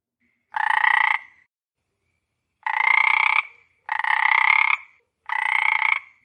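Four loud, buzzy frog croaks, each lasting about half a second, with one croak followed by a pause and then three in quicker succession. No voices accompany them.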